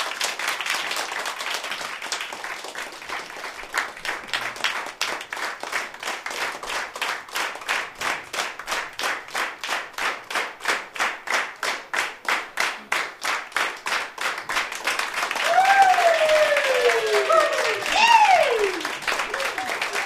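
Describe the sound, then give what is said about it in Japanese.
An audience claps in steady, rhythmic unison for a sustained stretch, the beats loud and even, with scattered voices and whoops swelling in over the clapping toward the end. “拍手が、あれ、拍手、拍手。”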